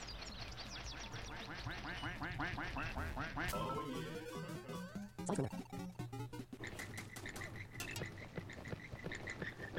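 A duck quacks loudly and rapidly in a long run of harsh repeated calls that continue over a busy, clattering background.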